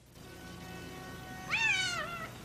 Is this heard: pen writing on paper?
no